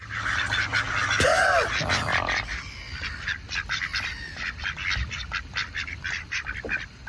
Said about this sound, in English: Okay, imagine you guys are in the park, chilling by a little lake or a pond, and you're feeding the ducks. There's your first lot of ducks.